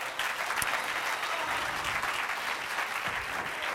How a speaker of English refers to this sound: If you're glad for that, clap your hands.